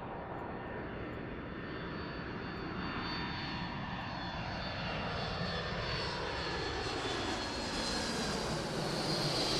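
A jet airplane lands on a runway in London: a steady, loud engine roar with a broad rushing noise and slowly shifting whine tones, growing slightly louder over about ten seconds. No voices.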